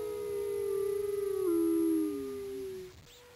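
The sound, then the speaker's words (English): A single long, wavering howl rises slightly, holds steady, then slides downward before fading out, heard alone at a distance against a quiet background. “for example, a wolf, but because it's a considerable distance from the recorder, there's no way to know for sure.”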